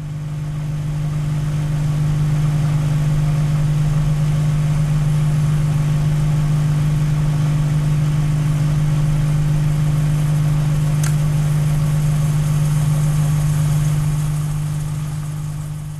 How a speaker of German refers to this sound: Kristen Roos ist ein kanadischer Musiker und Radiokünstler. Den Mikrowellenofen hat er mit einem Mikrofon bestückt, um das Geräusch aufzunehmen, das dieses Haushaltsgerät in Betrieb macht.